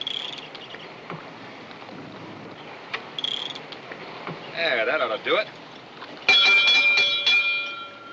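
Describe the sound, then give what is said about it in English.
A rough water warning bell, used in a park to warn visitors out in small skiffs when the seas come up, strikes once, loud, near the end, its bright metallic tone ringing on and slowly fading over a quieter background of faint outdoor noise. “It's a rough water bell, Bud.”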